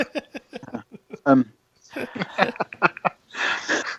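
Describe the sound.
Heavy breathing into a microphone on a voice call, a rough airy exhale that follows a stretch of indistinct voice-like murmuring.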